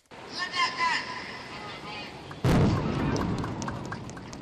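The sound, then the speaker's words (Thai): A crowd murmurs before one sudden, powerful explosion erupts, followed by a long rumbling roar that slowly fades, as Indonesian authorities blow up foreign fishing boats caught fishing illegally. “ครับนั่นก็เป็นเสียงระเบิดเรือประมงโดยทางการอินโดนีเซียนั่นเอง”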